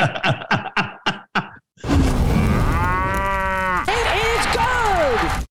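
A loud, drawn-out cow moo lasting several seconds, flowing straight into a second moo that swoops up and back down in pitch, after a quick run of short, clipped bursts.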